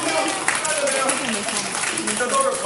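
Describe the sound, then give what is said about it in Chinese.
An audience at a crosstalk (xiangsheng) comedy performance breaks into steady applause, a dense, continuous crackle of many hands clapping for a few seconds, with some voices faintly mixed in beneath it. “不是，各位不爱听啊，你给他来个掌声。”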